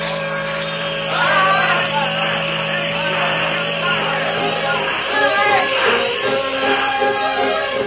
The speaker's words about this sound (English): Cast off those lines! Step lively, boys! Reverse the engines, Mr. Norton, until we clear the point. Then full speed ahead.